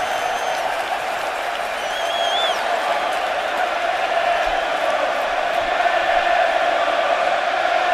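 A standing-room-only baseball stadium crowd, trying to get under pitcher Johnny Cueto's skin, roars and cheers in a thick, steady wall of noise that holds for the full eight seconds, with a few shrill whistles rising above it early on.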